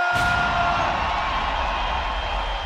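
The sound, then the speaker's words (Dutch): A dense wash of audience applause and cheering welcoming guest René Vroge, steady and loud from start to finish, with a brief sharp burst right at the beginning and no talking. “Lieve mensen, mag ik een heel hartelijk applaus voor René Vroge!”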